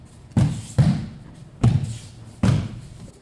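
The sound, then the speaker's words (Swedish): Four heavy, muffled thuds of judo practitioners hitting a padded mat as they train falling technique, landing in an uneven rhythm with short reverberant tails, no voices present. “Det är därför det dunsar i mattan.”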